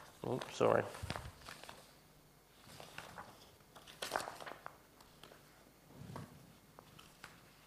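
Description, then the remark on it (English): Rustling and crinkling of paper sheets being shuffled, coming in a few short bursts separated by quieter pauses with soft handling noises in between. “Too many bits of paper.”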